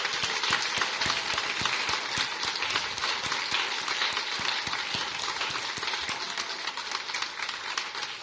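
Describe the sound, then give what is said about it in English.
Sustained crowd applause honoring the founding members and those present for more than 15 years fills the whole stretch, dense and steady, with sharp clap transients throughout and a bright, rattly layer of handheld noisemakers mixed in. “Can we get a round of applause and noisemakers?”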